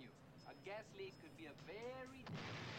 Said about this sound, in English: Ah, so they're making a fake gas leak explosion.